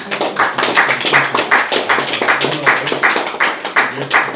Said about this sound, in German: Also dafür ja. Möchte ich jetzt mal klatschen auf euren Einsatz.